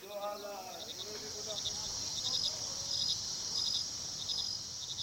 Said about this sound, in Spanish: Al llegar al resguardo, hay un profundo silencio. Tan solo se escucha el ulular de los búhos mientras los grillos cantan.